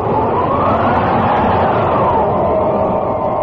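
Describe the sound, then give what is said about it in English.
A loud, steady roar of wind from a dust storm over a desert valley in March 1900, with a howling tone that slowly rises and falls, blowing continuously, with no voices. “In March of that same year, a dust storm.”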